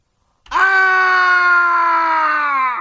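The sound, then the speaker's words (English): A man lets out a single loud, sustained scream that starts abruptly and holds steady for a couple of seconds, its pitch sagging slightly toward the end, alone; a sound effect from the Scary Sound CD. “The infamous from the Scary Sound CD, Screams Man.”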